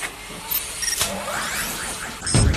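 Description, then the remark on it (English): An economy car engine being electrically started: a sharp click, then a whirring motor winding up in pitch over a couple of seconds, ending in a louder, rougher burst, with no talking. “It's an anti-corp economy model as well there. Oh, it's electric start, this one as well.”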